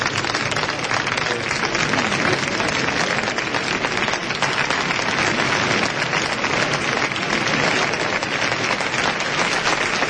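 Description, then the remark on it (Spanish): A large crowd in a bullring gives a sustained, dense ovation of applause at a bullfight, steady and loud for the full length with no pauses, as the bullfighter dedicates the bull to the public. “Bueno, y esa es la respuesta del público, ¿no? Ovación cerrada que la pueden oír.”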